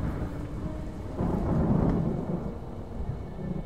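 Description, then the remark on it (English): Low rumbling thunder rolls through a steady wash of falling rain and blowing wind outside, swelling into a deeper, louder roll midway before easing back to a continuous stormy hiss. “A storm was coming.”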